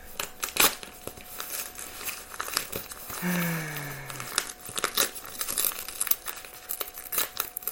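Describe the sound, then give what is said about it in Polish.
Crinkling and crackling of a bubble-wrap padded mailer envelope from a parcel locker being torn open by hand for an unboxing, with bursts of sharp rustle and a longer, drawn-out ripping squeal midway through. “Ja go oczywiście odebrałem w takiej kopercie z folią bobelkową. Także co, rozpakowujemy. Trzeba ją po prostu zwyczajnie tutaj oderwać.”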